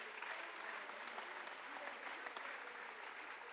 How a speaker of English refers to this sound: Somebody clap your hands today. Aplaude sus manos.